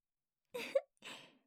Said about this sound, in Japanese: かわいいゲップが出ましたね。えらいえらい。